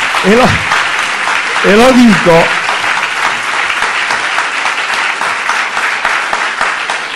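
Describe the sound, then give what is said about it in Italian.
Dense, steady crowd applause fills the whole seven seconds, loud and even, with a couple of brief voices calling out over the clapping near the start. “E lo dico perché non per cercare appunto l'applauso, perché so che tutti qui dentro si sentono altrettanto partigiani della Costituzione”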